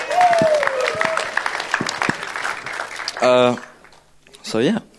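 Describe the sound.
A crowd claps in a dense, steady round of applause lasting about three seconds, with a high whoop over the start, followed by a couple of loud voiced calls or cheers.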